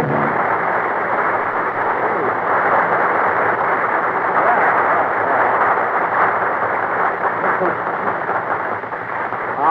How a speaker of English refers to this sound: Listen to the prisoners applauding.